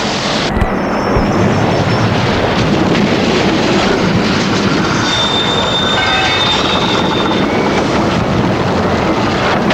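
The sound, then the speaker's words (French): A high-speed TGV train roars along the rails, a loud steady rush of noise with thin, high metallic wheel squeals rising over it partway through. No voices are heard. “TGV en explosant, faut dérailler d'autres TGV.”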